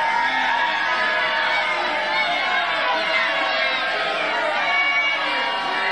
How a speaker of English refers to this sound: So the person starts heckling and Trump, people start booing and Trump just stops.